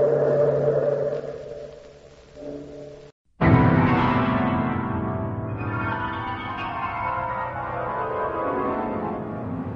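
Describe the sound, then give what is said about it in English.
A deep bell tolls loudly after a brief silence, its rich metallic ring decaying slowly across several seconds, following a stretch of sustained low humming tones. No voices are heard. “Bellkeeper, toll the bell.”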